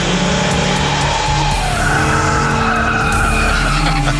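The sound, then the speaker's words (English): A newly built car roars in loud on a road, its tires squealing in a long continuous skid as it brakes hard to a stop, engine rumbling underneath throughout. “That's not the same car, is it?”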